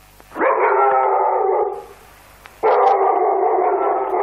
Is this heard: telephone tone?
no